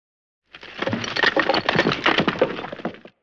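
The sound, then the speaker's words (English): A heavy load dropped by Toad crashes down, a dense burst of cracking and clattering, like wood splintering and tumbling, lasting under three seconds with no voices. “Toad groans and drops a heavy load.”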